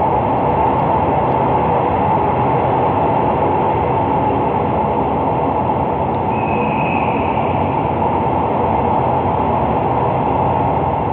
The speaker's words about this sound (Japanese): 青函トンネルに入るのは午前5時ごろ。海底のトンネルを走る鉄路の音が寝静まった車内に響きます。